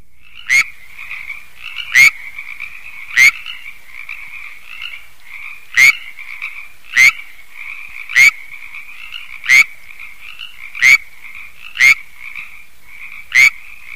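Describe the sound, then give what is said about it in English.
A California tree frog (Hyla californiae) gives loud, short calls about once every second or so in Setanac Canyon, eastern San Diego County, California, while a Pacific tree frog keeps up a softer, steady trilling chorus in the background. “Here in Setanac Canyon in eastern San Diego County, California, it's heard with a Pacific tree frog in the background.”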